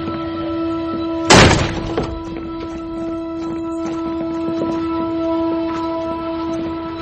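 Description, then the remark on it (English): One loud, heavy bang of a door being forced open by police, with a short rattling decay afterward, set against a steady low hum that runs through the whole recording. “It's easier if you just open the door, otherwise we're going to come on in.”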